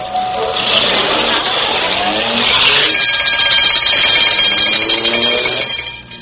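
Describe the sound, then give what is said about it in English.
A loud alarm bell rings in two long, continuous bursts, signalling a call for an ambulance crew, the second brighter and more metallic than the first, then cuts off abruptly. No one speaks. “Uh-oh, 2 bells. Come on, Mason, that's our call.”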